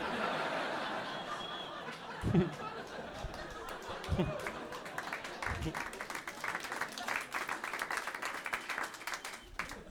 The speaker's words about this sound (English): You guys just like didn't know if you should clap, and then I started drinking the water, and then you're like, I guess he expects us to clap.